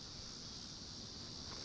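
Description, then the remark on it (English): A steady, high-pitched chorus of crickets chirping outdoors in a yard, faint and continuous with no pauses, blended with a soft background hiss and no voices. “Crickets from my old yard.”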